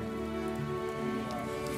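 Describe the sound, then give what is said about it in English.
Steady rain falls in a continuous, even patter on a Saturday morning in Belfast, with a low, sustained musical drone running underneath it and no voices. “In the rain.”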